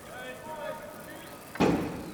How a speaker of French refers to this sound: des sons obscènes, un concert de poings frappés contre les portes rythme leurs hurlements de singes et d'animaux en tout genre. Cette violence sonore augmente à mesure que les détenus semblent y trouver un plaisir.